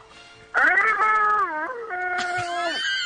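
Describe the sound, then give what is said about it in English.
A person imitates a Godzilla roar with a loud, strained, screeching wail that wavers and dips in pitch, holding for about two and a half seconds with no talking over it. “if you want the tickets to the premiere of Godzilla tonight, we have to hear your best Godzilla roar.”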